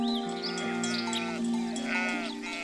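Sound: sheep bleating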